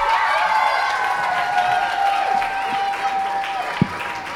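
A crowd applauds steadily for several seconds as two second- and third-grade pupils from the Volksschule in the Zennerstraße are called onto the stage, a dense wash of clapping with a faint tonal hum beneath it and one sharper clap standing out near the end.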